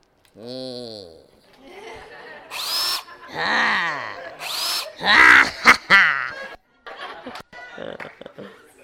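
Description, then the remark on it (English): A power drill whirs in several revving bursts, its pitch climbing and dropping as the trigger is squeezed and released, with some chuckling voices mixed in. “This is the power drill.”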